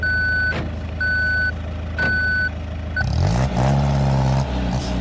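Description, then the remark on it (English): Three steady, evenly spaced reversing beeps sound over an armored truck's rumbling engine, followed by the engine revving louder as the heavy vehicle pulls away. “We're back in the Brinks truck up again.”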